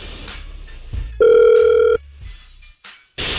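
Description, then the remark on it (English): Telephone dialing and ringing as the radio station Hot 96.9 places a call: a few short clicks and beeps, then a loud, steady ring tone held for under a second, followed by more brief clicks and tones. No one speaks. “Hang on the phone and we're going to try and call her right now, okay?”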